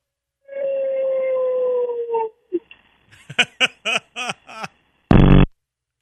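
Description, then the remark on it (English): A dog lets out a long, drawn-out howling woo, followed by a quick run of short, rhythmic yipping woos, heard over a phone call to the call-in show Late Hits, then a brief harsh buzzing blast at the end, a phone fart sound. “But if you have a normal like dog that could actually defend your child, that kind of dog probably woos.”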